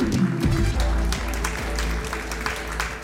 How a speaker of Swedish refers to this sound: En stor applåd för Sveriges sämsta folkbildare.